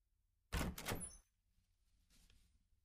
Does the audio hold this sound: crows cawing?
no